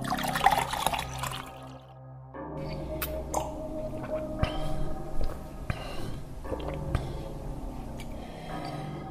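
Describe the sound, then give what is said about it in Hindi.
Water pours steadily into a vessel for drinking for a few seconds, a continuous splashing trickle with a low background hum and a few soft clinks, no voices. “थे यहाँ पधारो सा और यह पानी पियो सा।”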